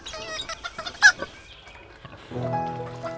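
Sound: chicken clucking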